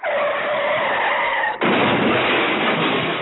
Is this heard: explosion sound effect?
yes